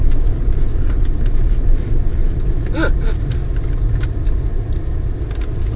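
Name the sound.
busy street traffic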